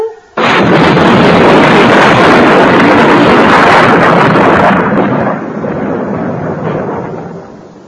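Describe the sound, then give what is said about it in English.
A huge thunder clap from an electric storm with lightning bursts in abruptly and roars at full loudness for several seconds, then rolls and rumbles slowly away as it fades. “The thunder's coming. The loudest of all.”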